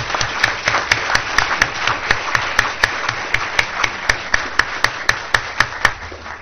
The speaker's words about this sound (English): So we give him a round of applause.